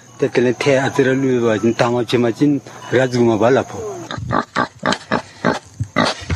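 Farm pigs in Bhutan that are fed cannabis grunt, with drawn-out squealing calls at first, then a quick series of short, choppy grunts in a steady rhythm.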